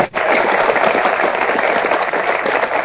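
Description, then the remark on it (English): A burst of crowd applause played as a sound effect, dense and steady clapping at a loud level that holds evenly for about three seconds with no voices over it. “Should we get an applause for that?”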